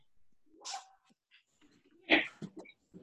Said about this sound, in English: Sorry, now my dog is barking at me.